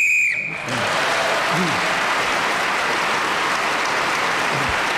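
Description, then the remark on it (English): A sharp referee-style whistle blows briefly at the start, ending a round while Clement Freud is speaking on the subject Beyond the Fringe, then is immediately swallowed by loud, sustained applause from an audience that continues to the end. “So, Clement Freud was then speaking again as the whistle went, gained that extra point.”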